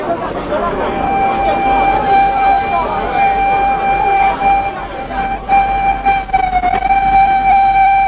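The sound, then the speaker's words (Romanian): A train approaches a station platform with a steady, shrill horn-like tone held over a dense rumbling roar, loud, while a crowd murmurs faintly beneath. “Trenul se zărea. Pe peron, liniște adâncă.”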